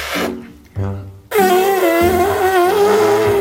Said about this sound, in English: A fart is funny because of the sound.